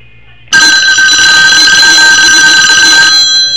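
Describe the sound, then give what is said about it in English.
After a moment of near silence, a telephone bell bursts into loud, continuous ringing, a harsh metallic trill that holds steady for about three seconds without pause. “Howard, pick up the phone.”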